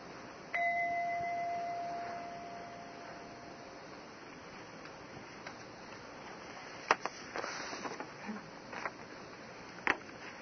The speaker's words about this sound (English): Okay. Ring the bell. Ring the bell for people to come.